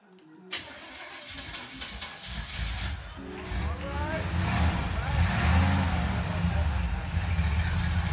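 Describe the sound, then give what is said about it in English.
A car engine cranks as the ignition is turned and catches after a brief quiet start, then settles into a loud, steady rumble with rising revs, with no talking over it. “For 2 years, old man Jackson had been trying to start the car by leaving it running or by backing it in.”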